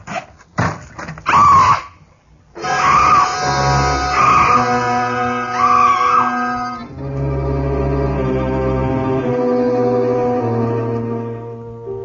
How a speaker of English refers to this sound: Screaming finally. I felt better for it.